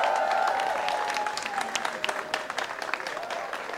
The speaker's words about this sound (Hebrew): ואני רוצה שנסתכל בחיילים האלה, אני רוצה שתמחאו להם כפיים עכשיו.